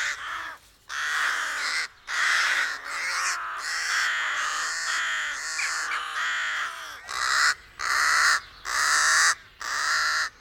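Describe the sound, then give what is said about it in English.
Harsh, raspy rook caws come in a steady run of repeated calls, loud, with brief gaps between bursts and several birds seeming to overlap. No voices. “In the English language, their name takes from their harsh call.”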